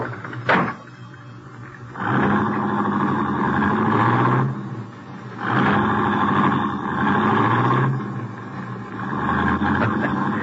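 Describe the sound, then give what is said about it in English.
A sharp click, then a car engine, started with the key left in the ignition, turns over and roars to life, revving in three long surges with brief dips between, loud, with no voices. “Key's still in the ignition, too. Yeah, we're in luck. Get in. Drive it out to the farm.”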